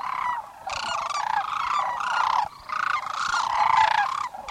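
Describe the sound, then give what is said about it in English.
A dense chorus of rolling, trumpeting bird calls from a large flock of hundreds of thousands of sandhill cranes at the Middle Platte River in Nebraska in March, overlapping continuously and loudly, with no speech. “Every March, hundreds of thousands of sandhill cranes return to the Middle Platte River in Nebraska.”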